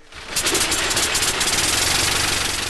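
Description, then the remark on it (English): A brand-new 1908 aircraft engine, its propellers swung through by hand, sputters to life and settles into a loud, steady running rhythm with a rattling, knocking chatter, alone without any voices. “The brand new 1908 engine finds its own sound.”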